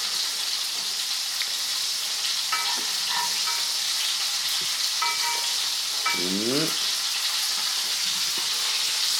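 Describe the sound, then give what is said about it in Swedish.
Meatballs sizzle steadily in a hot frying pan on slightly above medium heat, a dense, even crackle throughout, with a few clinks and scrapes of a utensil turning them partway through. No one speaks. “Då vänder vi på köttbullen här. Kör du mycket värme på stekpannan eller kör du lite värme?”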